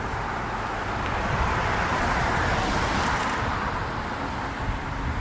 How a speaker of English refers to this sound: Stay. Wait for these cars.